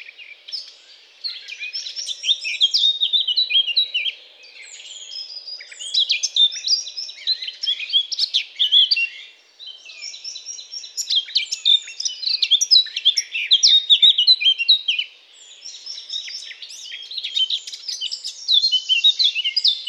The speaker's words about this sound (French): C'était la fauvette à tête noire.